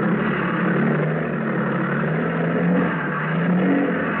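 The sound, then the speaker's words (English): A motor sampan's engine runs steadily as it tows a raft towards the coast at night on a whitecapped sea under a quarter moon. It is a loud, continuous rumbling drone with a low hum underneath and a faint rise and fall in level. No voices are heard. “For 2 hours, the motor Sampan labored along towards the coast, dragging the raft behind her.”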